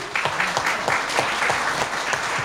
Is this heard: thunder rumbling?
no